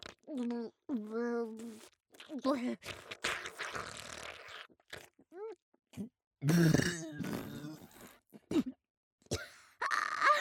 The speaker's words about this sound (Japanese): 出た出た、うんこよりもぐっせー特大ゲップ。